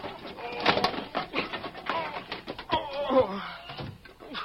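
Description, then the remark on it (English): An old hen squawks and clucks in agitated, broken bursts for several seconds, fairly loud, with a raspy, uneven rhythm and no clear pauses. “Oh, get out of here, you squawking old hen.”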